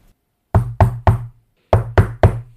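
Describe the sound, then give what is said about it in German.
Two quick sets of three loud knocks on a wooden door, with a short pause between the groups, as someone hurriedly knocks at a neighbour's door. No one speaks. “Eilig stürmte sie zur Nachbarin Trollin Barbara und klopfte dort an der Tür.”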